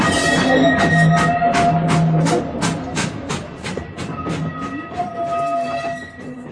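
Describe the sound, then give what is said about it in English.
A train sets off with a steady run of rhythmic chugs and a sustained metallic whine beneath, loud, the beat slowing and thinning toward the end. “Looks like we're off.”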